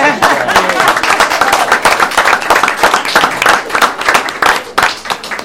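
A crowd at a meeting claps steadily for several seconds for the parents, dense overlapping hand claps, with a few voices faintly mixed in beneath the applause.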